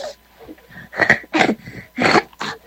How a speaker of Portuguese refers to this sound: Ei, tá tossindo ali, ó. Fala comigo, bebê.